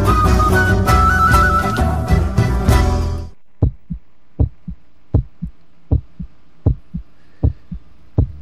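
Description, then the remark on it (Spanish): Loud music fills the first three seconds, then stops, leaving a steady heartbeat alone: paired low thumps, lub-dub, repeating about once every three-quarters of a second with a faint hum beneath. “Se me escucha perfecto con un latido ahí en el fondo que escuchaba.”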